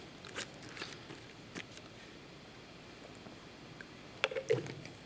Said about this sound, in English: Sorry, I'm just going to have some water.